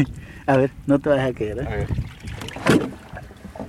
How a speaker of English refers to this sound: He lowers himself slowly over the edge of the boat to look for oysters.